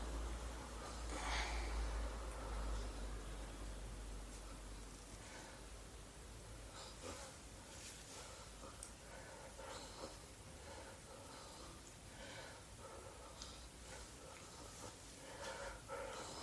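Heavy, raspy breathing continues close to the microphone, with snorting, noisy breaths and a steady rustling hiss. No one speaks.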